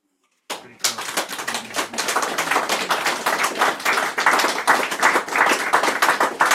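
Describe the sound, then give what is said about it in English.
An audience breaks into steady applause after a poem is read, dense overlapping hand claps starting abruptly and continuing strongly without any voices. “It's unusual to get clapped after every poem.”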